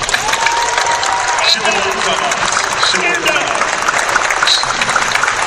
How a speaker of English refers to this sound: She's my vice chairman. If people could please applaud.